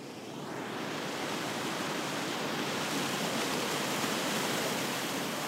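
river water rushing

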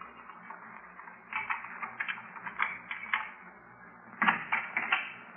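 footsteps outside the house

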